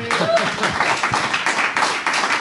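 An audience applauds steadily, a dense, crackling wash of many hands clapping at once, with a brief voice heard faintly at the start.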